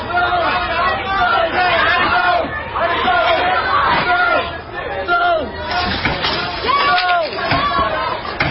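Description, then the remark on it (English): A loud, agitated crowd of protesters shouts and yells after storming a restaurant in Louisville, throwing tables and chairs that crash and clatter on the outdoor patio, with a few sharp bangs cutting through the din near the end. “These protesters storm a restaurant and begin throwing tables and chairs on the outdoor patio.”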